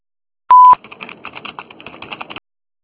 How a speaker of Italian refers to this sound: Después del tono, ¿aló? Grabe su mensaje.